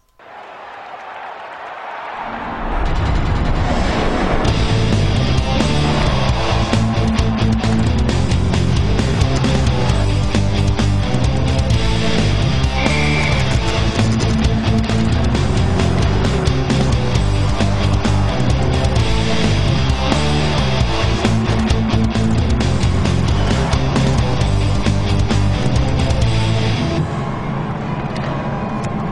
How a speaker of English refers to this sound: So they sampled the Excite Truck soundtrack and put it in the background.